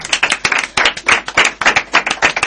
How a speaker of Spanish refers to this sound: Un aplauso.